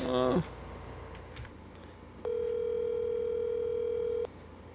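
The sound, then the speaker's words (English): A telephone busy signal on a call to someone: a single steady, mid-pitched electronic tone that holds for about two seconds, loud and even, after a short burst of noise and faint background sounds. “I was just calling him. Really quick, yeah. Do that. It's busy.”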